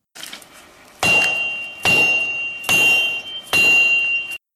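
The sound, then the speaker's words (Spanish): Four loud, evenly spaced hammer blows from a new neighbour building his house, each one a sharp metallic clang that leaves a high ringing tone hanging until the next strike, with no one talking. “Sí, es el sonido de un martillo.”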